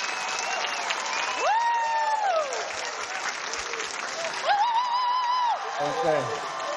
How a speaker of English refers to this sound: I think if we clap and cheer loud enough, we might be able to get him up here.